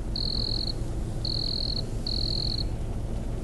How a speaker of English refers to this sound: That actually, that cricket sound isn't actually because I can't think of anything.